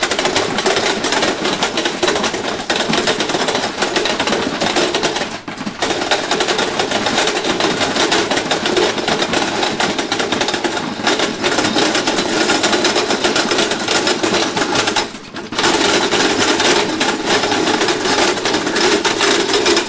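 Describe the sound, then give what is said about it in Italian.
A hazelnut processing machine, with hazelnuts being loaded into it, runs with a loud, dense, steady clatter and whir, rattling continuously with two brief dips in the noise along the way. No one speaks. “Dunque mettiamo le nostre nuggiole qui, in due gabbo della nostra macchina e comunque è magira direttamente.”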